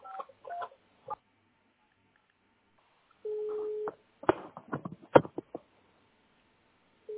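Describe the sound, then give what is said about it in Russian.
Telephone dialing tones as a number is dialed on a home landline: a few short two-note beeps, then a steady low hum of a dial tone, followed by a quick run of sharp clicks and tone bursts. No one speaks. “Так, ну попробуйте сейчас сами набрать какой-нибудь номер, прям вот с домашнего, пока я с вами разговариваю.”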